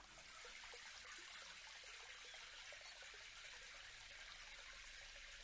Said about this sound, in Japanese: 綺麗になりましたね。泡、流していきますね。